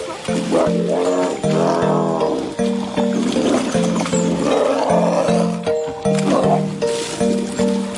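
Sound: tiger growling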